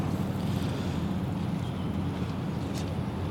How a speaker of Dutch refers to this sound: We varen nog wat door tot aan Langerbrugge, waar net de veerboot uitvaart. En hoe heet die boot? Jawel. Het zal de Maeterlinck zijn, hè.